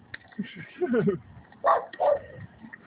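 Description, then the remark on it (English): A dog barks twice in quick succession, fairly loud, after a stretch of softer low murmuring sounds. “Oh, hush, you're starting to be barking.”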